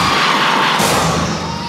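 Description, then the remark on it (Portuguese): A loud, dense roar of women in a crowd cheering and shouting when called on to shout, sustained without a break and swelling slightly partway through, with many voices blending into one wall of noise. “Agora eu quero ouvir o grito da mulher que é independente e acha que os direitos são iguais.”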